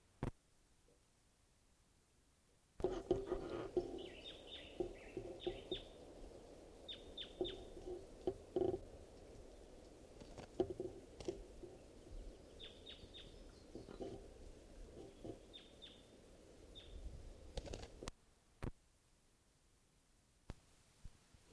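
Wild birds call in quick bursts of high, thin chirps, repeating on and off for about fifteen seconds over a steady hiss of background noise, then falling quiet.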